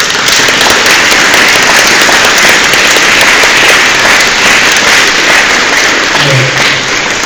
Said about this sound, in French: Et je souhaiterais vraiment les remercier. Et aussi, si je puis me permettre, si vous pouviez juste aussi un peu les applaudir, ça me ferait plaisir.